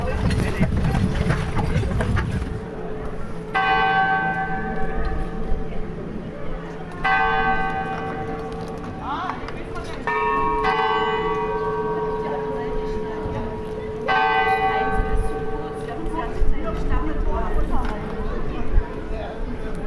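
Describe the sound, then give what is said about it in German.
A bell rings at 9 o'clock in several repeated bursts of strokes, moderately loud and ringing out, as five horse-drawn coaches set off from the yard; horse hooves clip-clop and an outdoor hum runs underneath; a voice speaks briefly at the start. “Und um 9 Uhr wird die Glocke läuten und dann fahren hier die 5 Kutschen vom Hof.”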